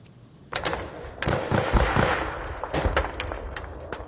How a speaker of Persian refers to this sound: صدای تیر و توپ در سرحد تاجیکستان و قرغیزستان دوباره بلند شد. در بعضی از گوشه ها دود به هوا پیچید.